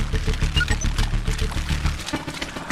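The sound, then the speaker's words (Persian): Water rushes and pours steadily, flooding an underground tunnel gallery, a loud, continuous churning roar with deep rumbling underneath and no voices. “گالری رو ظاهرا آب برداشه.”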